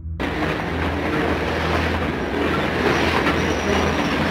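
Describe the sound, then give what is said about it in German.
A streetcar rolls along its rails with a steady, loud rumble and rattle, a thin metallic wheel squeal rising faintly toward the end. No voices are heard. “Ich soll eine Straßenbahn nehmen, die heißt Sehnsucht.”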